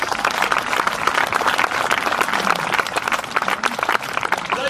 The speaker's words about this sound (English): Give yourselves a big clap, please.